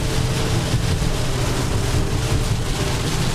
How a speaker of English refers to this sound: and the rain is kind of letting up a little bit, enough to go 50 miles an hour as opposed to 45. But this thing just trundles right through, The diesel-powered podcast command unit just continues to just roll on. I'll let you hear it a little bit.